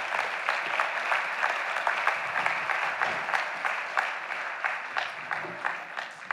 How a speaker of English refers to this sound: And so this is the team as they come up. Why don't you give them a round of applause? They're a good-looking bunch.